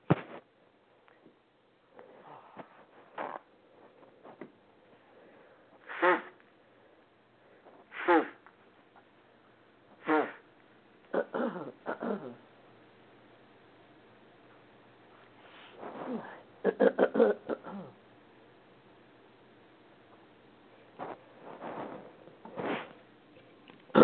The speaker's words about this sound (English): Excuse me, I'm going to take a slight break. I'm going to blow my nose. Isn't that awful? Hang on a second.